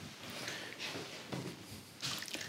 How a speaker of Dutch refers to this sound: Oeps, spetter.